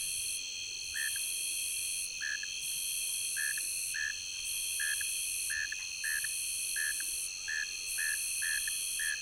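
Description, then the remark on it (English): A dense chorus of tree crickets and ground crickets trilling continuously in tall grass along a small stream, layered with a loud, pulsing, high-pitched raspy buzz from a Nebraska conehead repeating roughly every second, with no voices. “Tree crickets and ground crickets are dominant with their musical trilling, and then there's a Nebraska conehead sounding off loudly at the upper end.”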